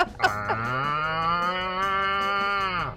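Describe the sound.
A person imitates a cow with one long, loud moo, a low buzzy tone that holds steady for about three seconds and then drops away at the end, with no talking.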